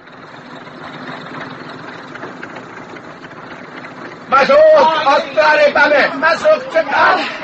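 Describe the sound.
An open truck's engine idles with a steady, low, continuous rumble for about four seconds while people are told to pile in, then loud voices break in and talk over the running engine.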